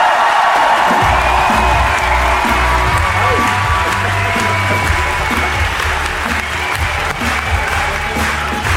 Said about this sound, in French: Si, ils ont de l'humour, hein, et ils vont nous faire un tonnerre d'applaudissements.